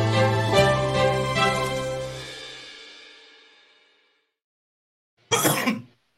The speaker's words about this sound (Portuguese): É, quem viu aqui já viu que eu voltei tossindo.